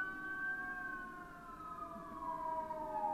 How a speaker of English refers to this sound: Is that a fucking ambulance?